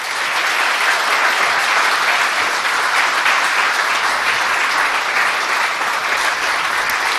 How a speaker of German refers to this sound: Und ich glaube, die drei hier haben sich nochmal einen fetten Applaus verdient.